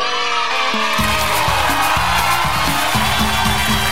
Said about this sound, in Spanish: aplauso.